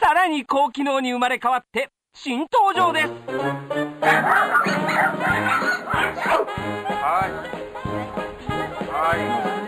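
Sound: dog barking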